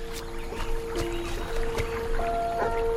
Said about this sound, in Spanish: En el bosque cruza el arroyo.